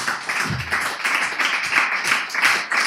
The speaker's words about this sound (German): Vielen herzlichen Dank. Ich finde, es hat einen extra Applaus verdient jetzt hier.